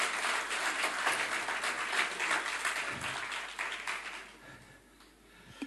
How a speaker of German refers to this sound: Herzlichen Dank. Es gehört ihr wirklich ein Applaus.